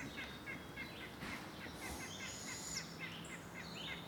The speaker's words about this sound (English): Six AM on the 2nd of July, 2021. Young bird from the sounds of it. Round head, no ear tufts.